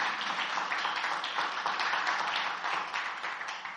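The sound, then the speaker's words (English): A crowd at a service at Last Adam Tabernacle applauds steadily, many hands clapping together into a dense, crackling wash of sound that holds at an even level for the whole stretch, with no voices on top. “Let's give them another big hand clap.”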